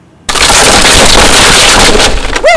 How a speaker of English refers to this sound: If you ask me, Captain Hardy's worst fears have been realized. The foremast is broken.